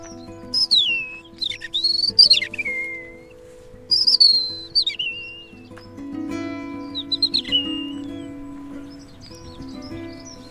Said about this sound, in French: Ah, accenteur mouché, c'est une autre espèce qui répond. C'est un petit accenteur, juste là, le petit oiseau gris, crie comme une souris.